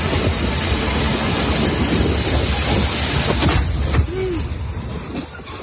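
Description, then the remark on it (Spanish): A loud, roaring blast of noise fills the whole recording, rough and wind-like, with a sharp crack near the end as the turbulent rumble of the explosion thins out. It is a bomb falling on several cars fleeing toward southern Gaza along a highway. “Es el sonido de una bomba cayendo sobre varios coches que huían hacia ese sur de Gaza por una autovía.”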